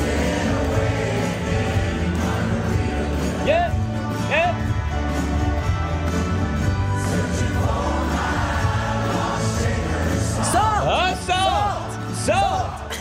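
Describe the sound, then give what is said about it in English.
A dense, steady roar of a concert crowd at a tribute concert at the Hollywood Bowl, with shrill rising screams and whoops cutting through now and then, bunching into a burst of excited shrieks near the end. “There they are, screaming in the background.”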